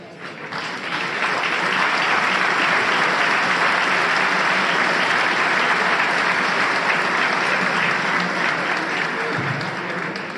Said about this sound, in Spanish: Entiendo que el aplauso significa que me tuvo que sentar, pero finalizo diciendo, hay luces largas, hay futuro.